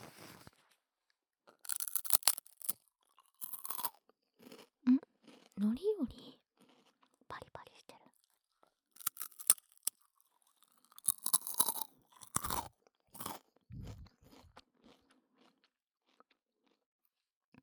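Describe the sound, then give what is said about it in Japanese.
Crisp, irregular crunching and chewing of a purple sweet potato senbei rice cracker, about 7 kcal and not too salty, with bursts of sharp snaps and softer mouth sounds, broken by a few brief spoken words. “でも食べやすいみたいなタイプのおせんべいなので、塩分も強すぎず食べやすい感じの、”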